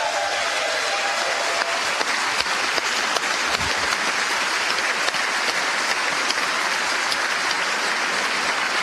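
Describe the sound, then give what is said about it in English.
Sustained, dense applause from a large crowd on both sides of the aisle in the Senate as Governor Mike Parson is introduced, steady and loud with a broad wash of clapping and no break in between. “And when he is introduced, look for a lot of applause on both sides of the aisle.”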